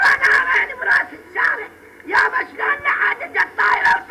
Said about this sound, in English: An old woman dressed in black and spattered with blood sat on the ground screaming as burnt-out vehicles, some still smoking, lined the parking lot behind her. Sirens wailed and security forces fired into the air, adding to the sense of chaos.